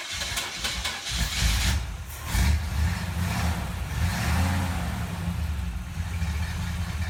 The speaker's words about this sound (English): He pulled himself upright and started the car again.